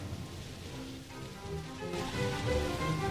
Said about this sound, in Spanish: Al llegar Manolo al puente de la Ceiba, la lluvia empezó a cesar y por arte de magia cesó. Y la noche quedó en total silencio. Solo se oía el goteo del agua de las hojas y a lo lejos el murmullo del río, más fuerte que de costumbre por la tormenta.